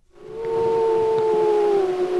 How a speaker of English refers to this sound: Those are gray wolves, specifically the wolves of the Druid Peak Pack. The Druids, as they're called, were the dominant pack in Yellowstone's Lamar Valley for more than a decade.